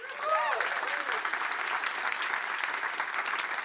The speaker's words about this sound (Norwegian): En stor applaus til partikkelfysiker og AI-ekspert Inga Strømke.